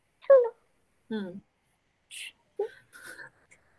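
A cat gives two short, falling meows close to the microphone, about a second apart, followed by a few brief, softer rustling and chirping sounds.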